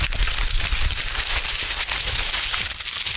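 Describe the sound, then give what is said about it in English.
Newspaper pages rustle and crinkle steadily for a few seconds, a dense, crackly papery noise with sharp little flicks and crumples and no voices. “And let's just have a look at the paper.”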